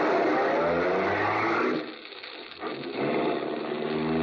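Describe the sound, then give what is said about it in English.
A car engine revs loud, dips briefly as if shifting gear, then climbs again into a steady roar as the vehicle pulls away. No voices. “You're almost jubilant as you run to your car, tell Helene the good news, and step on the gas.”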